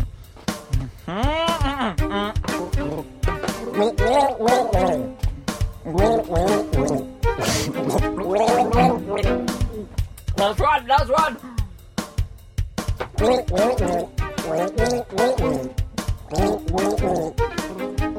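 Several people gargle water while trying to carry a melody, producing bubbly, rattling, warbling tones that rise and fall continuously and fairly loudly for the whole stretch.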